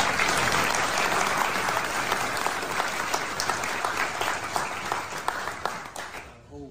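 crowd applause

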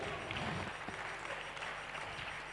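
audience clapping

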